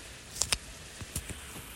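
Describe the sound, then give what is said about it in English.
Rain patters against a window in a handful of soft, irregular taps, quiet, over a faint hush, with no one speaking, on a day of heavy rain. “So, it's raining quite a lot today, and I love to sit with the sound of the rain on the window.”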